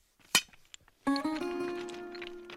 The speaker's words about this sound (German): Hier brechen wir die manuell noch mit einer Eisenstange und einem dicken Hammer. Reißen wir die aus dem Berg und dann mit einem Meißel und mit dem Hammer brechen wir sie auf und bereiten sie für den Bau vor.